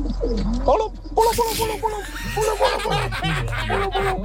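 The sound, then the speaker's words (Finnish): A person imitates a pigeon with a run of throaty, warbling coos, fairly loud, in quick repeated bursts with a breathy, almost snickering edge. “näytä miten pulu hoitaa homma.”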